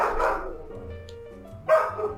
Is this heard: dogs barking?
yes